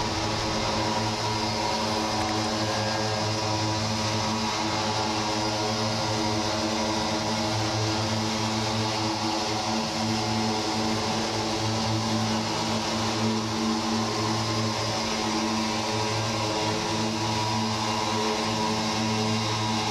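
A dense, droning experimental ambient piece from the German label Drone Records: steady low harmonic tones hum continuously with an engine-like rumble and a hissy upper wash, unchanging and fairly loud throughout, with no voices.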